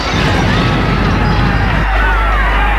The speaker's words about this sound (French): L'émeute est partout. On entend des coups de feu, des cris, la bagarre.